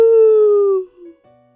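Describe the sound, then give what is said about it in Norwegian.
A single long, thin howl at the moon rings out loud, its pitch sliding slowly downward for nearly a second before fading into a few faint, lingering tones. “Han ser opp mot månen en gang til, strekker på halsen og set i med et langt og tynt ul.”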